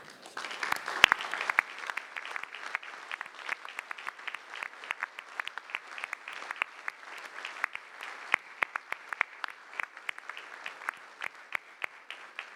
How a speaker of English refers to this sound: Now, as is our custom, I would ask all of the retired bishops, the senores, to stand for recognition and applause.